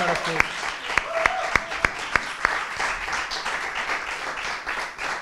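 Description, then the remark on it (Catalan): An audience at the live show Salsitxes Paradís bursts into applause for a live song performance, a few sharp individual claps at first, then a dense, steady wash of clapping that carries on for several seconds. “Un altre aplaudiment o què? Sí, fem-ne un altre.”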